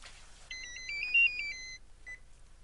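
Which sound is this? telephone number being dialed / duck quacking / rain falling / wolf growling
telephone number being dialed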